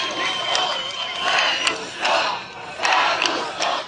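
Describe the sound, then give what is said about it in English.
Thousands gathered along the Danube River in Budapest, Hungary, cheer and shout, celebrating election results in which Prime Minister Viktor Orbán was defeated. A dense roar of many voices surges in repeated waves, with sharp whistles and yells cutting through, steady and loud throughout. “Along the Danube River in Budapest, thousands gathered to celebrate the astonishing and consequential election results.”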